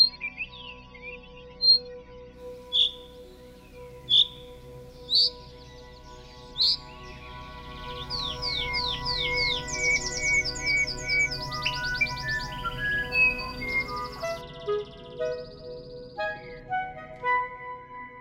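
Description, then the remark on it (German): A series of sharp, high bird calls, learned calls that serve as a substitute for song, repeats at a steady pace, then gives way to denser, rapid chirping and trilled notes over a faint low background hum, with no talking. “Das sind Rufe, die eigentlich Gesangsersatz darstellen.”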